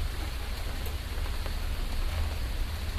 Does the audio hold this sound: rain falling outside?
yes